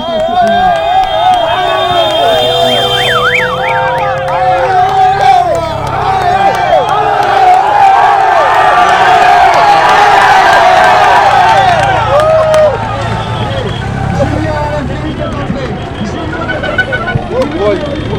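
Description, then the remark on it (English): A dense roadside crowd at a hairpin about 300-400 meters from the top of a climb cheers loudly and continuously as race cyclists pass, with whoops, whistles and shouting voices swelling around the middle and easing slightly toward the end, amid flares and waving flags. “They've just come through a tunnel of noise about the width of a motorbike.”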